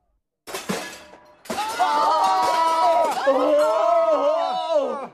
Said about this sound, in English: There were screams of terror, and the crowd ran away from the opera house.